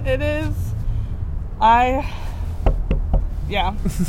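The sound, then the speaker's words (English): Three or four quick, sharp knocks on a wooden table in a brief rhythmic burst, with voices murmuring and vocalizing around them. “And I knocked on the table.”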